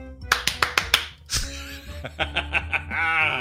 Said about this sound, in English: That stupid clap. And they still do it in this house. They avoid skipping the intro so that they can still clap to it, and then they'll skip the intro.